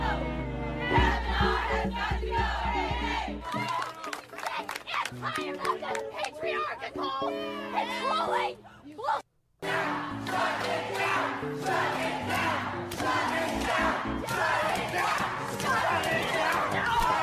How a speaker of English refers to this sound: deranged feminists banging on the doors of the Supreme Court when Brett Kavanaugh was confirmed. Screaming. She's consoling the redhead there. Shame, shame, shame, shame, shame.